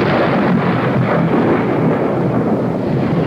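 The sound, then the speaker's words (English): Loud, continuous thunder rolls and crashes overhead during a night storm that shakes an old house, a dense rumbling roar with a faint hiss of rain beneath, sustained without pause and no voices. “That storm last night shook this old house like a terrier shaking a rat.”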